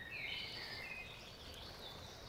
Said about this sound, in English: And as we come down this path, again, say hello to the birds that you hear.